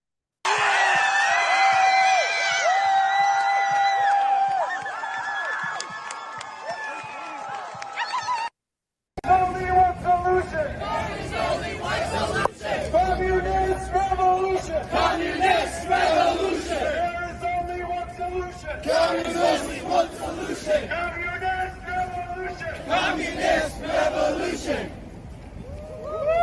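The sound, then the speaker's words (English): A large outdoor crowd of protesters at Yale University erupts in loud, sustained cheering and shouting as an American flag is ripped down, with rising whoops and yells swelling in waves, briefly cutting out before the roar resumes just as strongly. “You'll see the whole crowd starts to cheer.”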